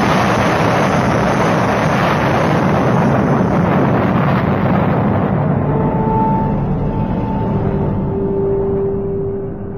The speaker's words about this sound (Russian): Петер едва успел выскочить из дома, как в нем раздался страшный взрыв.